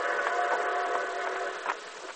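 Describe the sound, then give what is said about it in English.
The distant whistle of an approaching train, heard from a wooded grove near railroad tracks: a steady, harmonic tone that holds for a couple of seconds with slight swells, fairly quiet and alone. “In a wooded grove near the railroad tracks, 4 men with their faces masked by bandanas waited tensely as they heard the distant whistle of an approaching train.”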